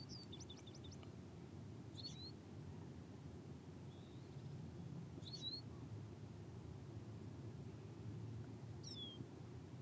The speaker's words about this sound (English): Feeling the power of the singing birds.